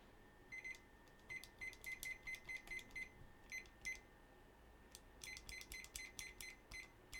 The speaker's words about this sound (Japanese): スマホのストップウォッチを使おうと思ったんですけど、開始の音とかが鳴らなくて分かりにくいので、あとキッチンタイマーを持ってきました。これで20分セットします。